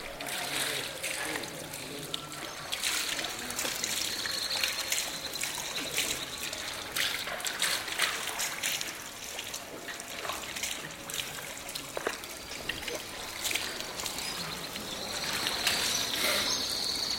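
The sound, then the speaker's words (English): Water trickles and splashes steadily from a fountain in the courtyard of a Quranic school in the Medina, with irregular splashes as men wash their feet, hands and face before praying, and faint voices in the background. “Men who live and work in this part of the Medina come here to pray, but before they do, they remove their shoes and wash their feet, hands, and face at the fountain in the school's courtyard.”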